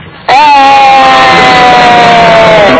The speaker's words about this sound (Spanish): Y nada, y el grito de siempre, que pegamos todos los días un grito. Venga, vamos.